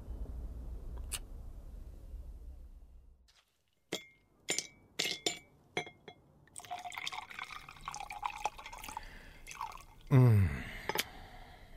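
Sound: ice clinking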